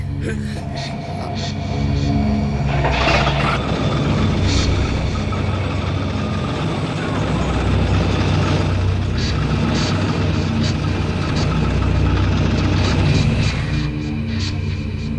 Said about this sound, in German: den Motor abgewürgt